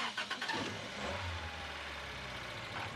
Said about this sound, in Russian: Несколько раз дернувшись, машина замирает.